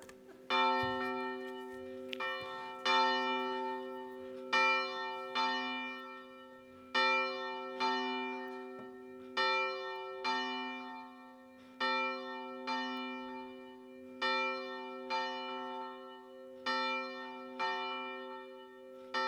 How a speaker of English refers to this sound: waiting for the bell.